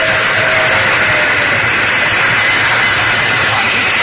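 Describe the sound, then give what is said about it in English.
An old steam train with white cars rushes past with a loud, steady roar and hiss that stays constant for the whole few seconds, with no pauses and no voices. “There's a train coming. It's an old steam train.”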